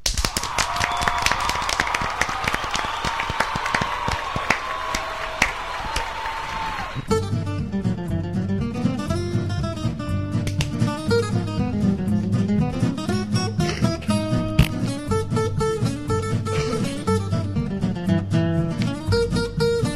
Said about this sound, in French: Et donc merci Flo et un tonnerre d'applaudissements pour Flo.